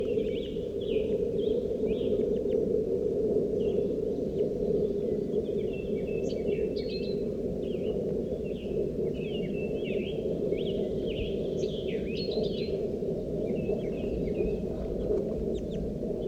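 crossbill calls

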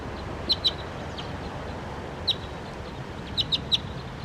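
bird calling loudly

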